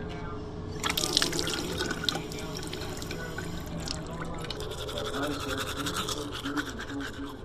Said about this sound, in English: So I've got a morning routine in my house. The first thing I do when I get up in the morning is I brush my teeth.